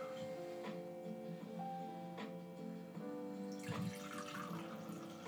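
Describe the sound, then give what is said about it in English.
Wine being poured into a glass: a steady, gurgling stream with ringing tones that shift in pitch as it fills, growing splashier and brighter near the end. No one speaks. “Good pour sound there.”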